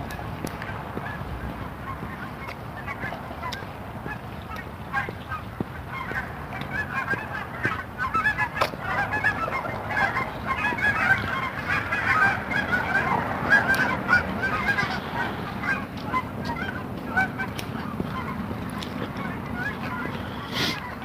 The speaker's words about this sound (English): Oh, geese are coming.